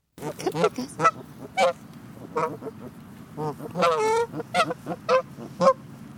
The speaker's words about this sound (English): Those are the sounds of geese recorded in Ann Kroeber's backyard in Northern California.